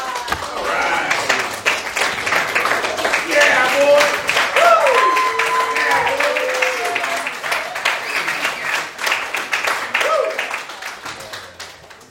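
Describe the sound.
A crowd at a meeting applauds the evening's speaker steadily for about twelve seconds, dense clapping that swells early and then gradually thins and fades, with scattered voices and a few whoops mixed in.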